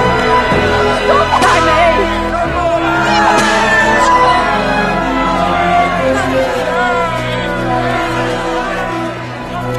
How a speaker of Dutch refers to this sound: Ze bleven schreeuwen dat Jezus gekruisigd moest worden.